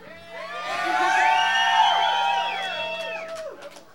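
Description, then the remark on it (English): A group of voices at the Grape Street Pub in Manayunk yells and cheers together in one loud, sustained burst lasting a few seconds, rising quickly, holding, then trailing off with scattered shouts near the end. “I don't think you had to yell, that wasn't in the rules.”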